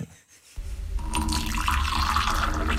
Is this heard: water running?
yes